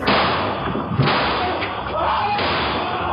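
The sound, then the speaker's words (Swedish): Two sharp gunshots ring out about a second and a half apart, cracking through a dense, steady wash of muffled background noise; shots fired at a 30-year-old man passing the corner of his house on the way to his car in Nyköping, Sweden, on 27 August 2023. “När han passerar husknuten avlossas skott.”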